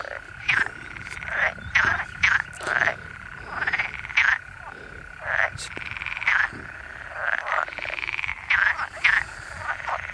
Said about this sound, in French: Ouais, c'est les grenouilles vertes que l'on entend là. Alors il y en a plusieurs. Il y en a plein le fossé. Elles doivent être posées sur l'eau, à la surface de l'eau. Leurs joues se gonflent régulièrement.